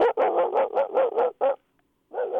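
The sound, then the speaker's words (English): A person imitates a dog barking as a vocal warm-up, producing a rapid run of about seven short bark-like yaps, then a brief pause before another bark starts, with no other talking. “I do a dog bark.”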